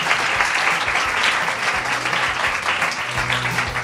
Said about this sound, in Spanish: Un fuerte aplauso para ellas, hombre.